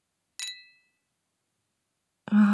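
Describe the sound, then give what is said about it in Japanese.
Two glasses clink once in a toast, a bright ring whose pure tone hangs briefly and fades. After a short silence, a person's voice begins near the end. “では、乾杯。”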